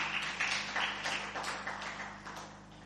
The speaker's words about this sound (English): Give the worship team another big hand clap.